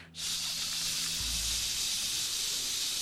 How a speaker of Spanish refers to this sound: El ruido blanco incluye ruido ese que se oía cuando tenías un televisor análogo y ponías un canal de televisión que no estaba transmitiendo y sonaba.